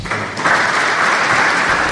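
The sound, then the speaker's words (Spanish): Sustained applause from an audience at a diocesan event presenting a pastoral programme, a dense, steady patter of many hands clapping at once that swells slightly after the first moment and holds loud throughout, with no voices above it. “Que se oyen los aplausos.”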